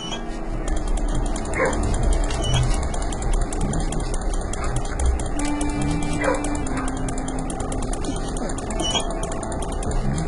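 A dog barks and yips a few times at irregular intervals over a steady rumble of engine and street noise. No one speaks.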